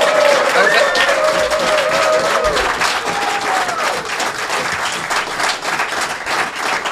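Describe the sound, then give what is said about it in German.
An audience at the Hotel Arte in Olten breaks into sustained applause for Marcel Dettling, dense and steady clapping that fills the whole stretch, with a few whistles and cheers rising above it early on. “Danke vielmals, dass ihr alle da gewesen sind und Applaus für den Marcel Dettling.”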